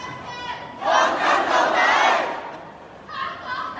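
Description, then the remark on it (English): A large rally crowd in Hong Kong shouts for independence in unison, a loud, sustained chant rising sharply and holding for a couple of seconds, then fading before a second burst of massed voices begins. “It's people shouting for independence.”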